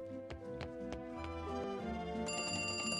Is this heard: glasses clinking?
no